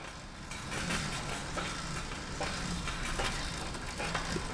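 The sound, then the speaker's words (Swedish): A bicycle being pedaled in Jeppe Hein's exhibition at Bonniers konsthall, the pedaling activating a construction that lifts strings of light bulbs, with a steady whirring, hissing mechanical noise and faint rhythmic clicks repeating roughly every second over a low hum. No one speaks. “Det ni hör är ljudet från en cykel.”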